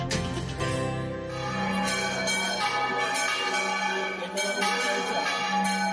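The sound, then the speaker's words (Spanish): Restored church bells of the bell tower in the village of Ardales, Málaga, swing and peal loudly and continuously, with overlapping clangs struck at an irregular swinging rhythm, their rich ringing tones sustaining and blending together throughout. “Así voltean las campanas en el pueblo de Ardales, otro hecho histórico en nuestra iglesia de Málaga, pues hacía un siglo, literalmente, que solo sonaba una de las cuatro campanas de este campanario.”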